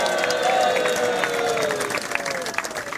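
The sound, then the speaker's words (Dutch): An audience at a show applauds steadily to honour veteran performers. The dense clapping mixes with cheers and a few high whistles and stays loud for about three seconds, with no one speaking over it. “Nogmaals, jullie applaus voor deze matadoren.”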